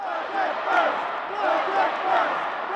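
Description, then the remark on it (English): A crowd of demonstrators chanting together for a budget solution outside the Illinois House chambers during Governor Rauner's speech, a dense wash of many voices rising and falling in regular swells, steady and loud throughout with no distinct words standing out. “Though it was hard to make out what they were yelling from the House chambers where Rauner stood before lawmakers to give his speech, all throughout it, demonstrators were just outside chanting for a budget solution.”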